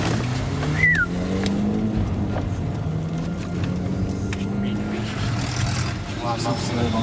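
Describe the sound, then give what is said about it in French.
A car drives steadily at night, following motorcycles; its engine drones low throughout, with road rumble and faint voices mixed into the constant hum. “Putain, ça va être difficile de suivre des motos en pleine nuit avec notre voiture, là.”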